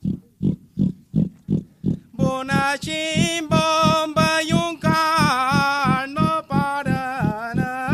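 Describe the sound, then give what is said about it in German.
Iberian pigs grunt and smack while eating acorns lying in the grass under a holm oak: a steady, rhythmic series of low snorts, then higher, drawn-out squealing calls rise over the continuing grunts. No one speaks. “In gebührendem Abstand von den Besuchern halten sie an einer Steineiche und machen sich schmatzend und grunzend über die im Gras liegenden Eicheln her.”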